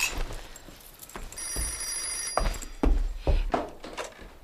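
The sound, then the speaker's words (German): A telephone rings during breakfast with a steady electronic trill for about a second and a half, amid some clunks and handling thumps before and after. “Da klingelte das Telefon.”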